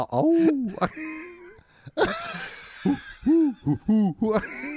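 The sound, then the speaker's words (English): A person imitates an owl with a series of rising-and-falling vocal hoots, one long call followed by several shorter ones in quick succession, fairly loud. “No, what does an owl do?”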